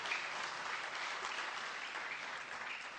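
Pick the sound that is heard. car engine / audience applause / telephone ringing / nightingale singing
audience applause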